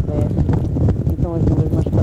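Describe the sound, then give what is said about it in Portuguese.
Heavy wind buffets a microphone, a loud low rumbling roar with gusty bursts, while voices talk faintly underneath. “Está muito vento. Está muito vento, não está?”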